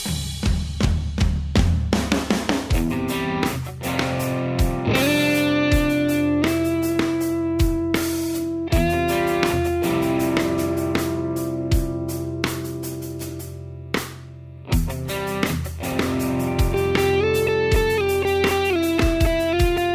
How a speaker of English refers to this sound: MXR Carbon Copy Deluxe Analog Delay Pedal.